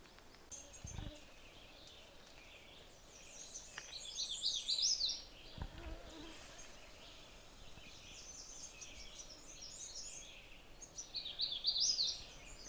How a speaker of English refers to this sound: This is a magnolia warbler singing. Kind of a round musical sound, not a very complicated song. The problem with magnolia warbler songs is they're very variable, so they're not that easy to tell all the time. This one's an easy one.